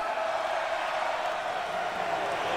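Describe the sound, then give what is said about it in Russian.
A recorded crowd murmur from a theatre's sound library, played by the sound operator during a performance: a dense wash of many indistinct voices blending into a continuous hum, holding an even, moderate level throughout with no single voice standing out. “Можно включить шум дождя или рокот волн, гул толпы”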